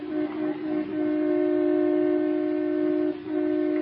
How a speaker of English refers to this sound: Oh, let him honk, the big goose.